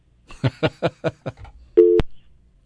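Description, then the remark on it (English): A telephone busy signal heard instead of a dial tone while trying to call a cell phone: five quick, evenly spaced beeps pulse over the line, then a brief steady buzzing tone ends abruptly with a click. No one speaks. “Where'd my dial tone go?”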